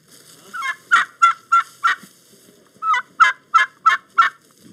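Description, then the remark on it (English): Poultry calling in a barnyard, with two rapid bursts of gobbling: a rising call followed by four quick, loud, warbling notes, a pause, then the pattern repeats. No one speaks. “Okay, back to the barnyard.”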